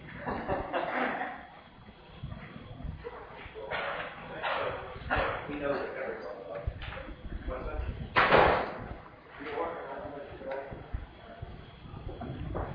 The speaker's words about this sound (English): Okay, I'll close the door so the world is not shocked or stuff.